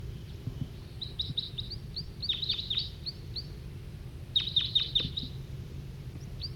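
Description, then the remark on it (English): High, sharp bird flight calls come in quick bursts of three to five chirps, clearest in two clusters, over a steady low rumble of background noise. “Another wild bird's coming in, giving flight calls.”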